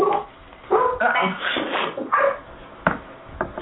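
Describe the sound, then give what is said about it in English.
A dog barks and yips several times in quick, uneven bursts, loud, with a whimpering quality between barks and no talking. “I'm thankful it's not my dog.”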